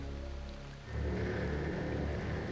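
heavy rain

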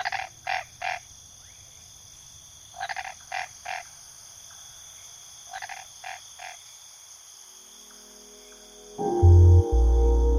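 toad croaking

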